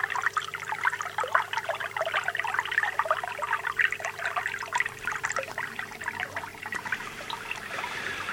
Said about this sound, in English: And they have huge variety of different conditions to cope with, from slow running water like this, just trickling over the stones, down towards the lake where there's lots of fish in. Just listen to this lovely sound, it's very peaceful.